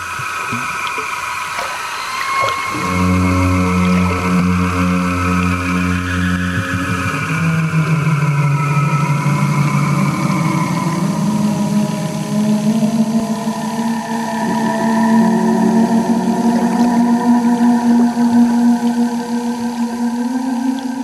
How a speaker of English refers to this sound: So there was a sculpture installation. They had microphones in water. Amazing. And sent bubbles through water.